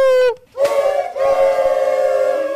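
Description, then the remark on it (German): Buzzy, kazoo-like tooting made by blowing into an empty toilet paper roll with very thin paper glued over it: a short steady hoot, a brief pause, then a long, loud, reedy drone rich in raspy overtones. “Das ist eine leere Klopapierrolle sozusagen und darüber ein ganz dünnes Papier.”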